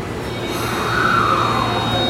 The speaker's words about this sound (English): I am currently at Otemachi Station, which is one of Tokyo's largest train stations, as well as one of the busiest in metropolitan Tokyo. Now, as the train is approaching, as the train is coming into Otemachi Station,